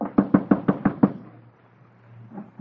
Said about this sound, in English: At once, Abner put on the garments of a beggar, waited until the rabbi returned to his house, and then he knocked on the door.